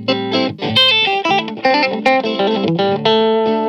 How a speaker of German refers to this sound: Ganz schön von drunter gedreht von der Verzerrung her, aber das ist letztendlich auch nur ein Booster. Das ist aber eher so ein Ever-On-Pedal, was man eigentlich mal eingeschaltet lassen möchte für den Sound.